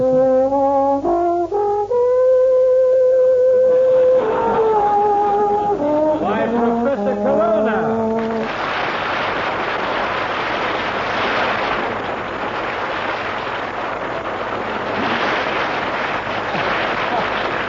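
A solo brass horn plays a slow theme melody of sustained, sliding notes for about eight seconds, then loud audience applause takes over and continues to the end.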